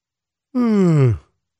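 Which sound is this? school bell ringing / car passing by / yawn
yawn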